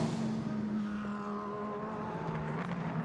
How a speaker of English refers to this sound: That rumbling you might have heard behind me was another LMP3 car. That's the Riley machine that is going back out on the circuit.